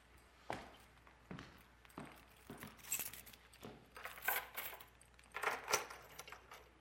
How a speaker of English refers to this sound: Okay, I'm going to just have my little props ready. My keys, house and car, and work.